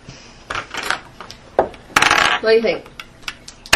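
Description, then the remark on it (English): A die clatters across a hard tabletop in a quick burst of sharp clicks and taps, ending in a brief ringing rattle as it spins and settles. No one speaks. “I don't have a good die. Yeah, we'll hand it here. I'll trade you out then.”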